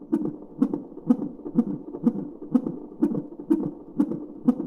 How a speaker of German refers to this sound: Das sind die Herztöne eines ungeborenen Babys, und zwar 2 Wochen vor dem Geburtstermin. Um den Herzschlag zu messen, werden der Mutter 2 Sensoren auf den Bauch gelegt und mit einem Gurt fixiert. Es wird also ein CTG geschrieben.